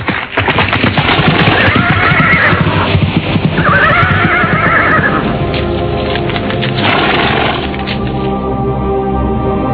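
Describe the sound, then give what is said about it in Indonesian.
A horse whinnies loudly while hooves clip-clop steadily as riders head toward the palace of Kadipaten Terung. The rhythmic footfalls continue throughout, with a second neigh partway through and no talking. “Mereka langsung mengarahkan kuda menuju istana Kadipaten.”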